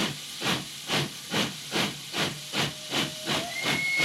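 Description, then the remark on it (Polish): A steam locomotive chuffs in steady rhythmic bursts of hiss, about two per second, and a thin steam whistle rises in near the end; moderately loud, no voices. “Kot jedzie pociągiem.”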